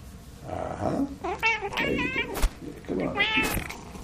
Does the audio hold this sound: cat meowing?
yes